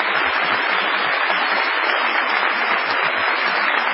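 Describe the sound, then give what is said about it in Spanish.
A theatre audience in La Plata breaks into sustained applause, an ovation for Patricio Barton, a dense, steady wash of many hands clapping at an even, loud level for the full stretch, with no voices standing out. “Vamos a saludar entonces, aprovechando nuestro increíble número, a Patricio Barton con una ovación inolvidable.”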